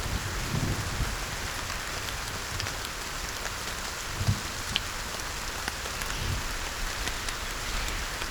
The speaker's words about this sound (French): La très belle cascade, les petits poissons qui nagent, les gouttes d'eau qui tombent.